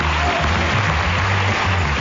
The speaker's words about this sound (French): On applaudit bien fort Delphine.